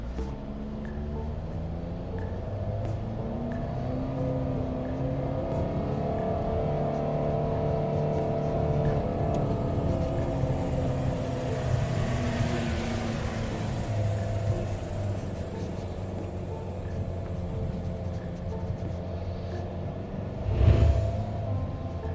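A car engine pulls hard under steady acceleration, its low drone climbing in pitch and holding strong for about twenty seconds, heard from inside the cabin with a brief bump near the end.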